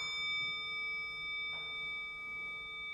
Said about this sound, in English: That's the gong right there.